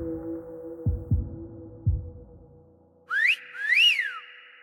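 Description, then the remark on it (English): After a few muffled heartbeat-like thumps over a low steady hum, a person whistles loudly in two parts: a quick upward sweep, then a longer note that rises and falls. “Robert's mental rant is interrupted by a whistle.”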